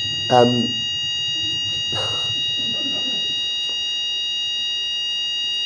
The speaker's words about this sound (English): Hopefully it's only a 2-trial fire alarm. Okay, good. Another Fawlty Towers-like feature of hotel. Most hotels just have 1 fire alarm practice, but anyway, there you go.